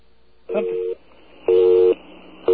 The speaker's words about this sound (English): Okay, so that's actually a busy signal, even though it sounds like a dial tone.